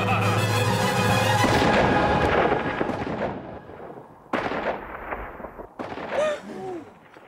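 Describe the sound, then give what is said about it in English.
A loud gunshot, fired at a stuffed bunny, booms and rolls away through a tiny town in a long, reverberant echo, as if bouncing off buildings, followed by a couple of softer, scattered sounds as the echo fades. “And then again, when they like, when the Lord shoots the stuffed bunny towards the end, you hear that gunshot kind of ricochet throughout this tiny town, and people quietly freak out.”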